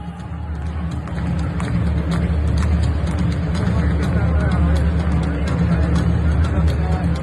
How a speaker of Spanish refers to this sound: Fue en San Mamés, sí. En la ovación que hicieron en Altuna III, Chapeldún de 4,5, ¿no? Estos momentos tienen que ser impresionantes, ¿no?